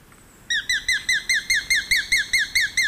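A small, slender, gray and rufous bird-catching hawk calls in a rapid, even series of about a dozen sharp, high-pitched kek notes, loud, after a brief quiet lead-in with a faint high whistle.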